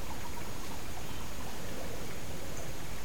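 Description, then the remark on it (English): Water running in an aquarium, a soft continuous trickle and gurgle that stays steady and fairly faint throughout, with no voices. “If you listen carefully, you'll be able to hear the water running in my aquarium too.”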